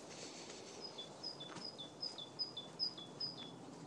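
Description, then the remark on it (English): A bird sings a repeated high two-note phrase, each pair stepping down in pitch, about seven times in a steady rhythm over a soft outdoor hiss, among leafless trees at the Finger Lakes on a chilly, windy day, with no talking. “See, that bird agrees with me.”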